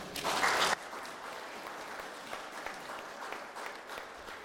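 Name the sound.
audience clapping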